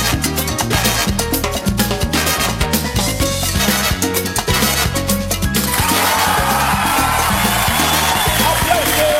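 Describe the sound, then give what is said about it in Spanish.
Upbeat music with a steady pounding beat plays, then a loud wash of crowd applause and cheering rises over it for the final few seconds. “Aplauso, aplauso, aplauso, aplauso.”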